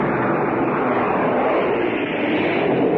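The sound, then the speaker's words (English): A loud, steady roar of aircraft engines fills the whole stretch, a broad rumbling drone of warplanes passing low overhead during the Normandy landing, with no break or voices. “Now planes are going overhead.”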